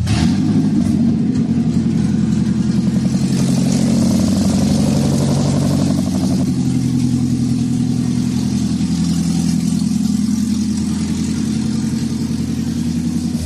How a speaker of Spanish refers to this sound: acabas de poner en marcha este coche, que nadie lo diría, pero es un coche híbrido. ¿Cómo puede tener este sonido? Es un híbrido, es un poco llamativo, ¿verdad? A toda la gente le llama mucho la atención.